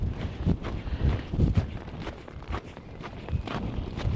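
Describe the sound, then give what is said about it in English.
Strong, cold wind buffets the microphone with a steady low roar, while footsteps thud along at a regular walking pace underneath. “And now that it's cold and windy, they've got their flippers stuck down by their side.”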